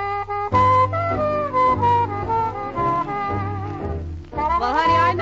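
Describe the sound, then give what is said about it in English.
A singer's voice slides up and down in drawn-out, catlike meows, imitating a cat over a steady musical accompaniment, several sweeping calls in a row. “and I might meow for anybody, but I'm saving my purrs for you.”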